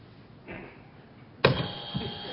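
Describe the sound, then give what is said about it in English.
A loud buzzer cuts in abruptly partway through and holds a steady, harsh electronic drone to the end, after a stretch of faint background noise. “First the buzzer.”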